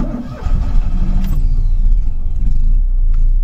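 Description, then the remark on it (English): An old car engine in Poland cranks and catches, then revs up with a rising, throaty roar before settling into a loud, steady rumbling idle. No one speaks. “Let's start it up. Let's see what this engine sounds like.”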